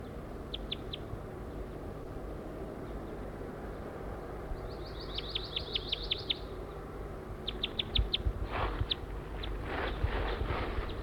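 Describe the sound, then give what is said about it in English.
A wild male bird sings in bursts of high, thin chirps, quick rapid series and short trills repeated over steady outdoor background noise, with a few soft thuds or rustles toward the end. “I'm going towards a wild male who is singing here.”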